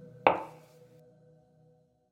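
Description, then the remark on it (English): One sharp knock on the white door of an expensive-looking white house, followed by a faint ringing tail that fades away within about a second. There are no voices. “An expensive-looking white house with a white fence and a white car and a white door, upon which he was knocking.”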